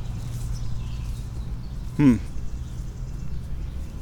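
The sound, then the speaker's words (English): A single short, harsh bird squawk rings out midway through, rising sharply and then breaking off, over a steady low background hum with no other calls. “Okay, more birds squawking and squonking.”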